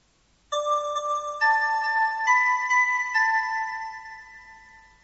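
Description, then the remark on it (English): A bell rings out clearly with four bright strikes about a second apart, each tone layering over the last and the shimmering ring slowly fading away at the end. “A bell.”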